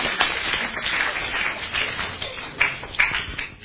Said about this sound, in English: So please, a round of applause for my helper.